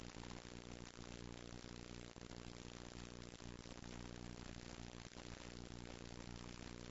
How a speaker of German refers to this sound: Läuft da hinten nicht ein Kriegsschiff ein?